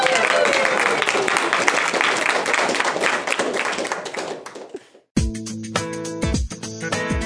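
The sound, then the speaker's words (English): A church audience applauds with dense, steady clapping for about five seconds after the preacher calls on them to clap for the good news of salvation, then the applause thins out and gives way to a short passage of music. “Now clap like you mean it.”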